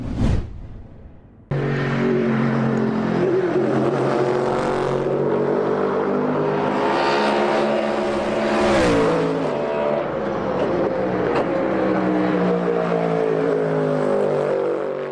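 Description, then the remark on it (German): The V8 engine of a GT3 pony race car roars loud, revving steadily with rich harmonic tone and rising and falling pitch, after a brief sharp burst at the start. No talking. “V8, muss man wirklich sagen, dass das noch so wirklich in dem Sinne möglich ist in der GT3, da dürfen wir echt so ein bisschen stolz drauf sein”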